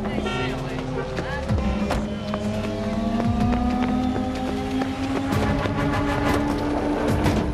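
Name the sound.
street traffic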